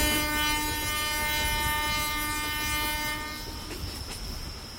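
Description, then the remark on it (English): A passenger train travelling from Bandung to Yogyakarta at 5:30 in the morning rumbles steadily along the rails with a sustained horn sounding for about three seconds, then fading as the rolling noise and faint clatter continue on their own. “Time to take what must be the most spectacular train journey you can take, from Bandung to Yogyakarta.”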